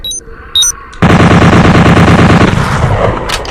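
A pair of short high electronic beeps, then an automatic gun opens fire in a rapid, loud, continuous burst of rattling shots that carries on for a couple of seconds before tapering into a rougher clatter.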